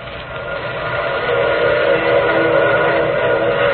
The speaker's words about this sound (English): Wasn't that a train whistle?